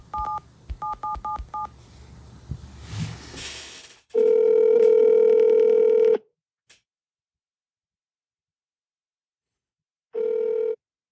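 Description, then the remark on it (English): A rapid series of touch-tone beeps as a phone number of all sevens is keyed in, followed by a long, steady ringback tone, a pause of silence, and a second shorter ring starting. “I'm pretty sure I know his phone number. I think it's all sevens.”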